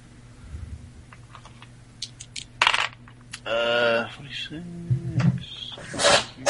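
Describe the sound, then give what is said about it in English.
Dice rattle and clatter across a table in a short burst of sharp clicks, rolled for a Spot Hidden check in a tabletop role-playing game, while a brief murmur of voices rises in the middle. “Go ahead and we'll say you'll make a spot hidden roll on that one.”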